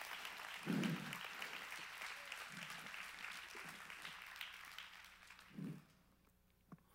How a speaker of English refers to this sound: I'm gonna make everybody clap.